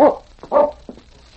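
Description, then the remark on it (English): A sled dog named King barks two loud barks about half a second apart, followed by a shorter, softer yelp, with no other sounds around them. “I got my dog team, and King and I'll pick up his trail and bring him back.”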